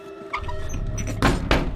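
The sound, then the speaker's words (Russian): A wooden box lid is lowered and shut with two solid knocks, preceded by faint scraping and handling noises; no one speaks. A young woman is closing the wooden box in her room. “После чего закрывает ящик.”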